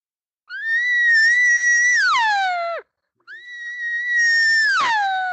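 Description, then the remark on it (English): A voice imitates a cow calling for her calf with two long, loud, drawn-out calls. The first holds steady then slides downward; the second swells and drops sharply in pitch. “And if they don't, she may raise the volume and lengthen her tone out. She'll go.”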